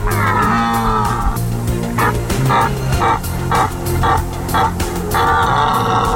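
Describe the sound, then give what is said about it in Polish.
Red deer stags roar during the autumn rut in the Tatra Mountains, long, deep, throaty bellows at the start and again at the end, with a run of short rhythmic pulses between them. No one speaks. “W kalendarzu piątek, 5 września, w kolejnych faktach jesień w Tatrach, czyli rykowisko jeleni.”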